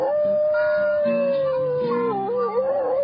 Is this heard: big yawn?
no